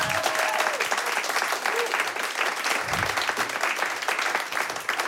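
An audience claps steadily, dense overlapping applause at a fairly loud, even level, with a faint tonal whistle near the start and a brief low murmur partway through.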